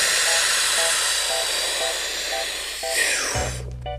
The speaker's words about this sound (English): To become a world champion in freediving, Tanya Streeter learned to breathe like this.